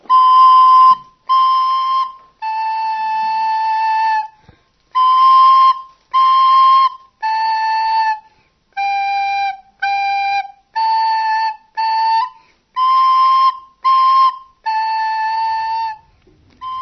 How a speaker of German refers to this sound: Die Alt- oder Sopran-Blockflöte mit Einhandmechanik.